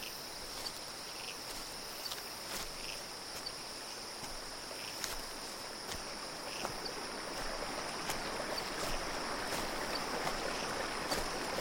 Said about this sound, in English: The river isn't far from here. It flows through the forest like time itself flows through your consciousness. Follow the sound of the river. It will lead you to where you want to go.